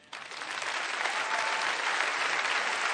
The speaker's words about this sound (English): By contrast, now, I just want to say, if you're a visitor here, or maybe you're a lifelong Democrat and you're feeling a little uneasy, why is everybody clapping?